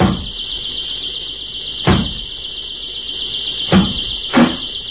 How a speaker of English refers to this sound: What's that? What's going on? Sounds like somebody's breaking down your door. I better go and find out.